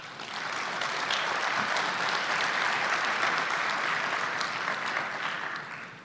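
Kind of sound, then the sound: crowd, audience applause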